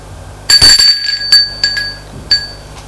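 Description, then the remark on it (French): A doorbell at an old, worn apartment door at the end of a second-floor corridor rings with bright, metallic chimes: a loud first strike followed by three softer rings at uneven intervals, each tone lingering briefly over a low steady hum. “Un peu gêné, sonne à la porte. Il attend un moment. Sonne encore une fois.”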